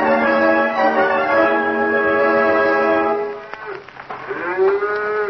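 Cattle moo in long, low, droning calls, one sustained bellow running for about three seconds before breaking into rougher, wavering lowing from more than one animal. No one speaks.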